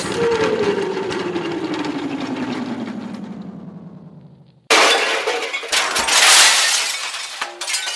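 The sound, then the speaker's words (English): A long, steadily falling whine drops in pitch for several seconds, then a sudden loud crash of metal and shattering debris as a transmission tower comes down when a falling figure crashes into it, clattering on for a few seconds. “You broke me whole tower, you juvenile delinquent.”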